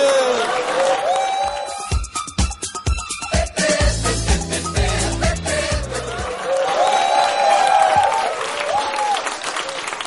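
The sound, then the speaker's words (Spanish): A crowd applauds steadily for about ten seconds as a show segment called PGGGGG is introduced, with sharp claps, shouted cheers and high whistles rising over the din, plus a few rhythmic low thumps midway. “Con ese aplauso, les doy la bienvenida a la prestigiosa sección PGGGGG.”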